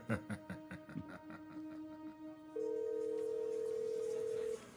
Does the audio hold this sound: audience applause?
no